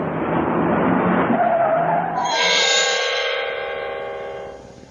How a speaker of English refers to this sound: They jumped in their truck and sped away.